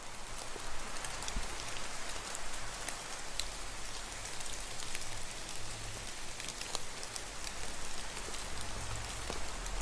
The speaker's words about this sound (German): Etwas später wird auch der Regen und der Wind sich wieder beruhigen. Langsam in die Ferne ziehen. Leiser und sanfter werden.